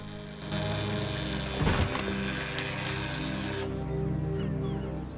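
A steady electric door buzzer drones for several seconds, broken near the middle by a sharp mechanical clunk as the front door's lock releases, then the buzzing continues before cutting off.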